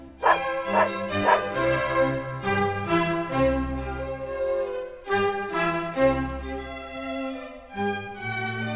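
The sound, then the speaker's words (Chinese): A small dog, Frisky, yaps in quick bursts, with three sharp barks near the start, then keeps barking and whining against a steady, humming tonal background. “尤其是杰西和弗罗拉两位小姐很爱骑着他到果园和他们的小狗菲士吉一起玩耍。”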